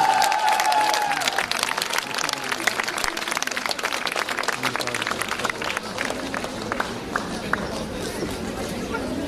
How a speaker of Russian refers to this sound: ваши бурные аплодисменты!